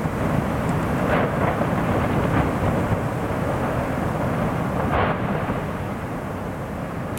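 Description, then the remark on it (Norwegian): Lava bubbling from a vent leaking lava in a small volcanic eruption: a deep, steady, heavy rumble runs throughout, broken by a few short bursting pops, with no voices. “Og jeg har en lite opptak her hvor du hører at det bobler litt i lava.”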